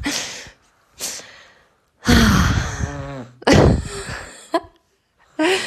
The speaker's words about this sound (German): Wahrscheinlich hört ihr jetzt gerade das Schnarchen von dem Kleinen.